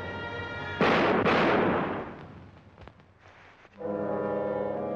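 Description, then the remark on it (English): Two loud gunshots in a film scene crack out about half a second apart and echo away over a couple of seconds, with sustained orchestral music before and after them. “So the composer is sitting in the dubbing room saying, you know, let's lower the volume of the gunshots.”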